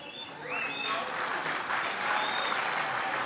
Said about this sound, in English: They're applauding for a Jet who went to the Pro Bowl.